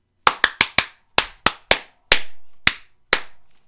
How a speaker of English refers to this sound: they clap 3 times